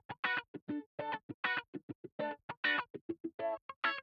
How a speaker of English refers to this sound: One guitar doing more of a chordal pattern, which sounds like this. And the other guitar doing more of a scratching rhythmic pattern, and that sounds like this.